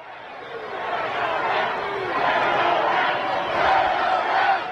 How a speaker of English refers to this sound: The supporters took to chanting, "Turn around, turn around," and the cameras never did.